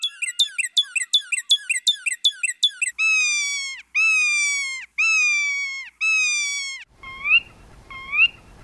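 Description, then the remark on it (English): A car alarm cycles through its modes: a burst of rapid electronic chirps, then four long descending wails, then a warbling siren. It is loud and sounds alone, with no talking. “And when people walk by them, like with a real car alarm, they'll sometimes trigger it without knowing it. And the cars will start shrieking and chirping and doing their thing.”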